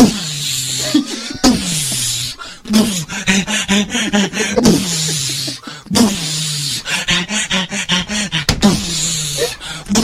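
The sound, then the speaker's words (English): A solo beatboxing performance: a voice rapidly imitates drum kicks, snares and raspy hi-hat hisses in a steady rhythmic groove, with hummed tones and sharp breathy bursts, loud throughout. “really I dabble cool. in beatboxing.”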